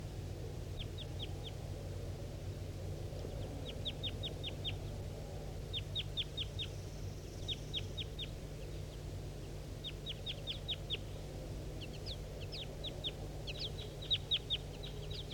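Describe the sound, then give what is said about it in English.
A male wild bird calls loudly in repeated bursts of quick, high chirping notes, grouped in short clusters every second or two, over a steady low hum. No one speaks. “By three responding loud now. Wild bird I'm pointing to.”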